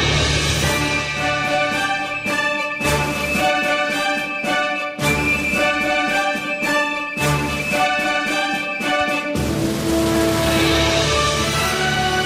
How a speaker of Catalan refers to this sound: No detecto, no tinc ni idea de quin és aquest himne nacional.